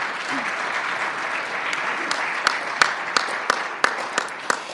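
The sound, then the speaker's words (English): An audience applauds in a steady wash of many hands clapping, with a few sharper, louder individual claps cutting through toward the end. No one speaks over it. “So I think you should give yourselves a round of applause and a pat on the back.”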